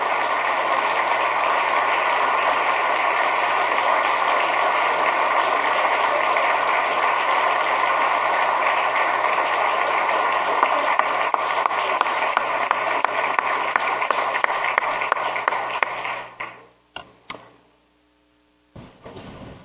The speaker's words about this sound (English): Let's give him a big round of applause, ladies and gentlemen, for all his help.